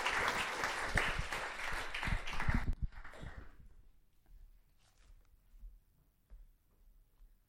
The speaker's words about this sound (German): Komm, auch einen kleinen Applaus für...